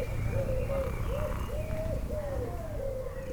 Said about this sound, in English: Barefoot walking in early morning hours, a starling is upset about the cat. I think it's a blackbird. It's sitting safely on top of a telephone pole.